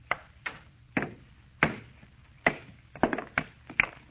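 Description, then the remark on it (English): A hammer strikes a stone, a meteor of almost solid metal, repeatedly to break it along a fissure: about ten sharp, irregular knocks, some landing in quick pairs, with the last blows sounding as the rock splits clean in half. No one speaks. “All I'm going to do is try and break it along this fissure. See, I had a hammer and a stone.”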